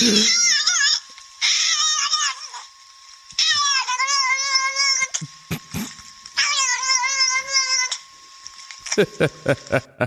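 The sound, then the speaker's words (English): A ticklish cat in a video meows over and over in long, whiny, drawn-out cries with short pauses between them, sounding like a recording played through a speaker, with a few brief clicks near the end. “Just look Ticklish Cat up on YouTube.”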